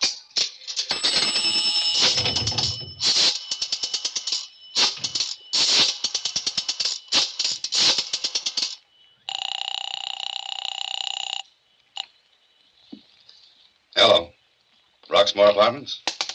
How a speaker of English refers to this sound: When the cab drove away, I then went into the drugstore to the phone booth. I looked up the Roxmore Apartments in the book and dialed the number.